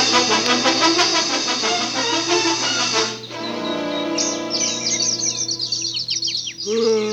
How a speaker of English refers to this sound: The birds are making me nervous.